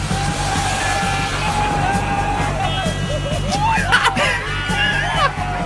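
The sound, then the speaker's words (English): A crowd shouts, whoops and cheers in rising and falling bursts over a steady low rumble of traffic, with excited voices overlapping throughout. The people sit in recliners on the grass beside a flooded road in the rain, and passing cars splash them with water. “And cars drive by and just demolish them with water and they love it. Listen to their joy.”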